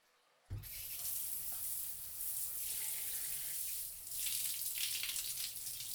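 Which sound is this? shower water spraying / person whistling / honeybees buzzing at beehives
shower water spraying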